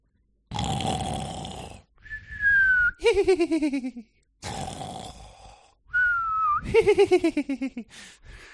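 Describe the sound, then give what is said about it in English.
A person vocally imitates a giggle snore twice: a rough, raspy inhale followed by a whistling tone that breaks into rapid, descending giggle-like pulses. Fairly loud, with no other sounds. “letting out a giggle snore here and there.”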